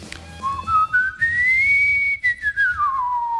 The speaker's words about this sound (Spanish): Que antes de decir el nombre del artista, sí. Tenéis que silbar una tonadilla.